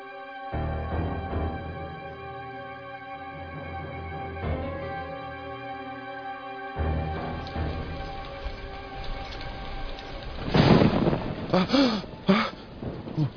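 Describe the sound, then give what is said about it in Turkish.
Deep rolling thunder rumbles over steady, heavy rain, with a sustained tonal backdrop, and near the end a brief, startled breathy vocal sound rises above the storm. “Gök gürültüsüymüş. Birden korktum.”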